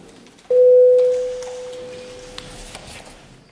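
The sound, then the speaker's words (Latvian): A single steady electronic bell tone, a parliamentary voting bell rung before a vote on a bill, rings out abruptly. It is loud at first and then slowly fades as it sustains for about three seconds over faint background noise. “Paldies, lūdzu zvanu.”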